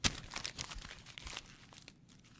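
Paper is crumpled and torn in a quick run of crackling, crinkly rustles and rips, with the bursts busiest at first and thinning out toward the end. No one speaks.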